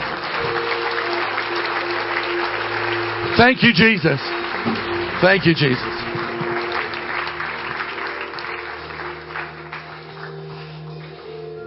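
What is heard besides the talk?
audience clapping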